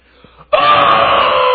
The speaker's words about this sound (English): And all of a sudden, there's this primal scream.